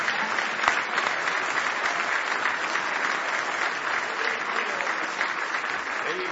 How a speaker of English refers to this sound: Now give him one more big old hand clap of praise if you love him.